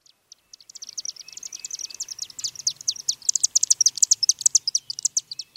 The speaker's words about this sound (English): That rapid tweeting you're hearing isn't a savvy social media user. It's a slender acrobatic bird called the chimney swift.